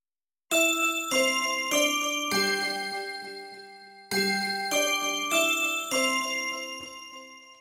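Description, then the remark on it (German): The Big Ben bell chime melody in London rings out in two four-note phrases, each bell strike bright and resonant with long overlapping decay, sounding clear and moderately loud with no voices. “Genauso wie die Melodie der Glocken von Big Ben sind die roten Doppelstöckerbusse ein Symbol für London.”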